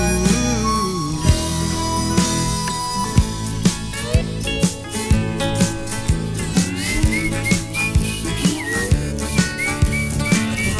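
A whistled melody rides over a full band backing, the tune clear and prominent above steady drums and instruments, with no voices speaking.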